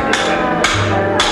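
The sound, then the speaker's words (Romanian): Three loud, sharp hammer strikes land at a steady, unhurried pace, each ringing briefly before the next blow, with no voices. “Dă-mi puțin ciocanul”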